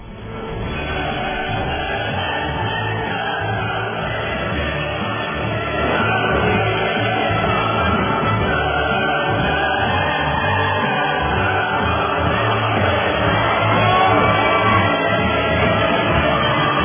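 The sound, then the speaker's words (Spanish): A crowd applauds and cheers for Father Andeo in a dense, steady roar of clapping and shouts that holds at a loud, even level for the whole stretch, swelling slightly toward the end. “Así que los aplausos para el padre Andeo por ese esfuerzo intelectual valioso.”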